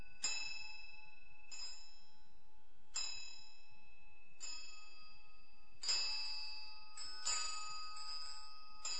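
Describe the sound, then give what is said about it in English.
A bell rung with a swinging motion, ringing in a steady rhythm of about six bright, metallic strikes with long ringing tones, clear with no talking. “So there are all these different ways of ringing the bell.”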